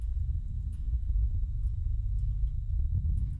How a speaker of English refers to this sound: It also has some of the qualities of a thunder sheet. It's a totally flat gong. It's a plate gong, so it's very wobbly. And when it's hit by a mallet, it will start to move around physically.